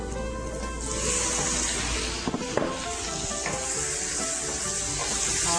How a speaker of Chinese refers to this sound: 好，那我们这个时候呢，我们把我们的花枝呢放下去炒，好。